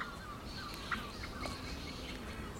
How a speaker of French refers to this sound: On se sent bien dans une campagne littorale parce qu'on entend peu actuellement les oiseaux de mer et on entend davantage en fait les passereaux, les oiseaux de la campagne.